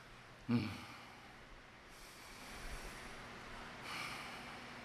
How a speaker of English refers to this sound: That's me breathing and praying. That's me breathing and praying and asking God, you know, what now? What do I do now? How can I best serve your kids?